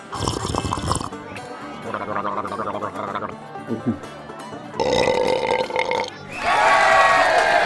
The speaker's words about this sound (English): And a stupendous burp from ….